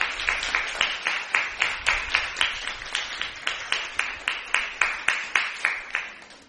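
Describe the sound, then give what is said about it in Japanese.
A church audience applauds to welcome the preacher, in a steady, even rhythm, about three sharp claps per second, sustained throughout at a moderate level with no voices over it. “大きな拍手を持って先生をお迎えしましょう。”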